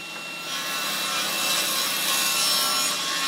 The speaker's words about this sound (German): schiebt ein 3 Meter langes, frisch aufgeschnittenes Holz in die Tischkreissäge. Dabei fliegen Sägespäne durch die Luft. Das wird eine halbrunde Wandverkleidung. Deswegen schneide ich hier einen Winkel an.